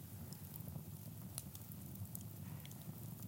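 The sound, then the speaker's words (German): A campfire crackles softly, with scattered sharp pops and snaps over a low, steady rumble, with no one talking. “Und sitzen am Lagerfeuer.”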